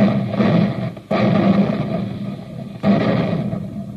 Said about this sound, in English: Well, it takes tons of smokeless powder to keep those big guns booming, the big guns that help our fighting men to victory.